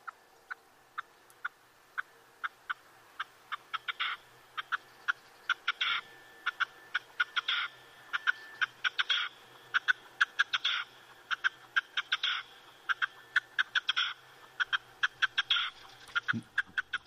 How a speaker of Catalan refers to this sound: Aquest, clar, no l'ubiques perquè, desgraciadament, ara cada vegada se sent menys als nostres camps, però és un ocell, és la perdiu roja, molt comú abans, ara ja no tant